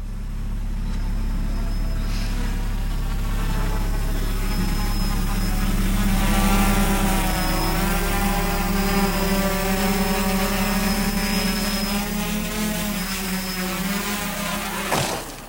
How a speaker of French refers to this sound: Le drone manipulé par le petit, le microbe, donc Buzz, qui filme sa cité de haut.